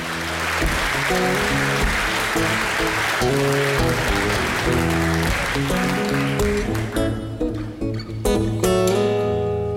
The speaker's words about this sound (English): Listen to this crowd. I mean, they're going crazy for him.